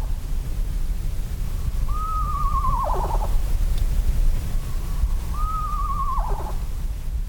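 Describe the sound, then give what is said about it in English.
An eastern screech owl, a small owl, gives two quavering, whinny-like calls as a territorial defense, each a high wavering note sliding down into a trill, separated by a pause, over a steady low rumble of background noise. “I heard a quavering song reminiscent of a horse's whinny. I thought it was a horse until I actually managed to see the small owl.”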